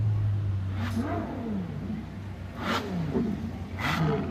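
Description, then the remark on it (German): A Ferrari California HS convertible sports car with a 560 PS engine revs loudly, its throaty pitch climbing and falling in a few quick bursts over a steady low idle rumble, with no voices. “Und dabei ständig dieser rührende Motor, den jeder Ferrari-Fan schon aus der Ferne erkennt.”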